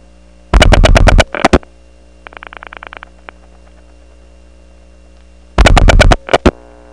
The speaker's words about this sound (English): Let's dial 6-3. Toco Hills doesn't have a lot of distinct noise on its unbalanced power on the selectors, just kind of a nondescript hum.